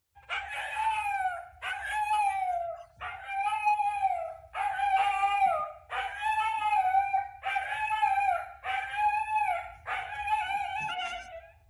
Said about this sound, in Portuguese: A última, antes da gente gravar aqui, que eu tinha sido chamada a atenção, é a do cachorro da Anitta. Ouve aí e me responde se o que ele disse foi: o Galo ganhou.